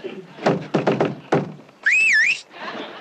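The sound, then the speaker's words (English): Five hollow knocks in an uneven pattern, a single rap, a quick triple, then one more, knocked in the Korean way, followed by a short wavering, warbling whistle and some faint noise. “I know how to knock in Korean.”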